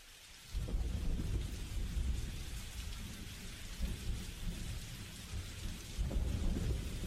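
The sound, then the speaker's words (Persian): Steady rain pours down with a deep, rolling rumble of thunder beneath it, the low roar swelling and easing over several seconds after a quieter start; no voices. “بارش رحمت الهی باریدن گرفته، لحظه ها لحظه های اجابت است.”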